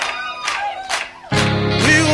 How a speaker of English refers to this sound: Can I get some soul clap?